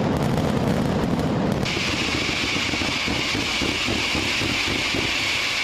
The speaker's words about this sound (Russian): Фестиваль представляет собой 5 шумных дней фейерверков, празднеств и процессий в честь святого Иосифа, который считается покровителем плотников и ремесленников.